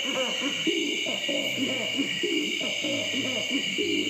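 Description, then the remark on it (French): Red-footed rail calls, recorded in Africa by Marc Giraud, repeat in a steady, pulsing rhythm of low, hooting notes, carried over a constant high-pitched drone of cicadas and insects, with some frogs. “Et bien on se quittera sur ces rythmes du râle à pied rouge enregistrés par les soins de Marc Giraud en Afrique.”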